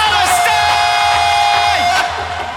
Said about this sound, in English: So let's fucking scream at the top of our lungs, fucking free Palestine. 1, 2, 3, 4, free!